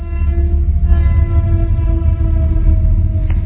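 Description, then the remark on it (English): A train horn blares in a steady, sustained chord over the heavy low rumble of a passing train, loud for the whole stretch, with no voices. “Our thoughts are like trains passing by. Let them pass. Oh, we have fun with the trains, right?”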